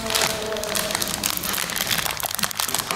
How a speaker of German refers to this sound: Die Schokostücken fehlen noch, ne? Die Schokostücken aus der Tüte raus und die machen wir jetzt noch mit in diese Schale rein.